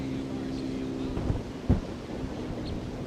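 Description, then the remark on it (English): Wind blows steadily across the microphone during a recording of wild birds, making a low, continuous rumble and hiss, with a couple of brief, stronger gusts buffeting through. “It's kind of windy right here now.”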